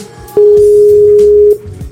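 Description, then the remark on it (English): A single loud, steady old-style telephone ringback tone sounds for just over a second against faint background noise, heard while waiting for an overseas call to the UK to connect. “Such a nice ring. Old ring.”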